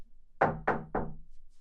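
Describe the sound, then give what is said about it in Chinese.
Three firm knocks on the door of a home in a steady rhythm, fairly loud, each with a short hollow decay, followed by quiet. “妈妈，你别光敲门啊，我们在里面。”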